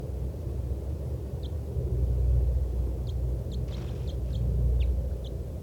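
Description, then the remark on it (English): A caged bird beneath a lodgepole pine gives a scattered series of short, high chip-like flight calls, some faint, over a steady low outdoor rumble. No one speaks. “That was 411 giving flight calls.”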